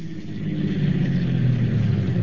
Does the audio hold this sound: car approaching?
yes